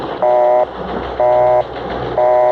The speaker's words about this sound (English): Okay, so it's a busy signal.